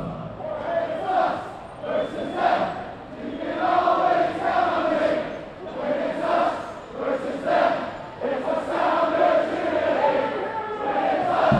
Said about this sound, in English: There are so many people, and they're all waving Sounders scarves and singing Sounders songs.